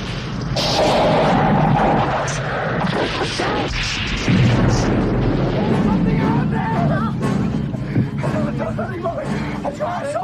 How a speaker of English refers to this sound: Outside, a creature on one of the wing engines gets struck by lightning.